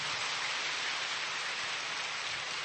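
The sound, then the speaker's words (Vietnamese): A church audience claps in thanks to God on a holiday, in a warm, sustained round of applause, a dense and steady patter of many hands holding at an even level throughout, with no voices over it. “Một tràng pháo tay nồng nhiệt nữa thưa anh chị em.”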